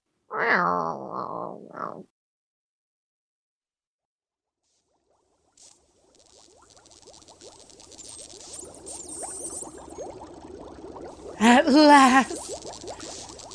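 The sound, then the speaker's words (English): A cat named Mr. F, being shooed out of a kitchen, lets out a loud, drawn-out meow, then after a pause a steady rumbling purr builds up, broken by another strained meow near the end. “All right, now shoo. Out.”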